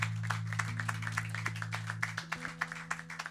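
A crowd applauds with steady, dense clapping from many hands, crisp and fairly loud, over a constant low humming drone that fades partway through. No one speaks.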